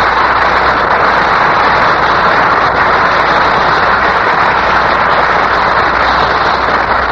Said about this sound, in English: And now, here's our star, Jean Herschel, on from Hollywood for a brief visit to New York, and the studio audience here in the heart of Times Square is giving him an enthusiastic hand.